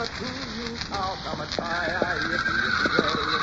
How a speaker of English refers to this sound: Hey, sounds like the horses are catching a whiff of a coyote.